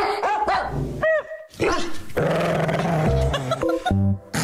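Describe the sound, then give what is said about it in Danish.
Several dogs, three newly arrived at a local dog kennel, bark loudly in a rapid, overlapping chorus, with sharp yaps and a low growl mixed in, with no talking. “Vi skal en tur i den lokale hundekennel, og det skal vi, fordi der er ankommet 3 nye hunde ind fra højre.”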